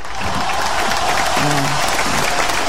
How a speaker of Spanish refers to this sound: Ovación para él, muy bien, fantástico.